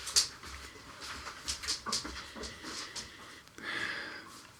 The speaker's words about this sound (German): Jetzt kommt der Hund. Der Hund kommt schon einmal, ja. Hund, riech du mal.